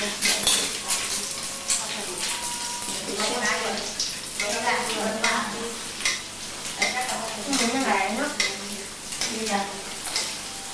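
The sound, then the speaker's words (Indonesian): French fries sizzle steadily in hot oil while metal utensils scrape and clink as they stir, fairly loud, with people talking over the cooking noise. “Pakai french fries ya, kentang gorengnya ya.”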